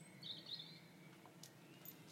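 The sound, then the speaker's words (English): Blackbirds singing faintly around the side of a house, a couple of short, bright warbling phrases near the start, then only quiet outdoor ambience with no voices. “Also, we could hear the blackbirds sing.”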